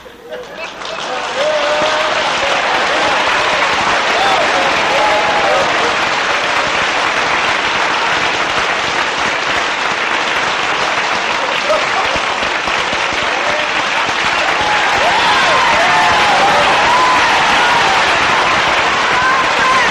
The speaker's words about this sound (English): I'm hoping that the applause was not premature. You didn't let me finish my statement.